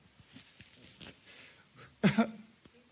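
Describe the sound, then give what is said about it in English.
A single sharp sniffle bursts out during a church service, loud and abrupt against a quiet background of faint rustling and breathing. “I hear a sniffle, man.”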